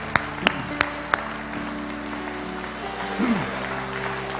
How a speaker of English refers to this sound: Clap our hands and thank him. Come on, better, better, better. Let's clap our hands and thank God for his goodness to us.